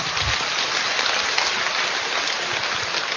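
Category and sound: crowd, applause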